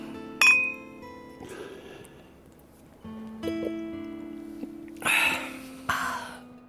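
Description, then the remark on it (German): Beer glasses clink together in a toast, a few sharp chimes spread over several seconds, each leaving a bright ringing tone that lingers, with soft breathy noises in between and no talking. “Prost.”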